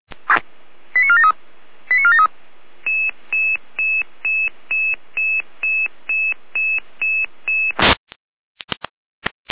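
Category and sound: signal or alarm, radio pager alerting tones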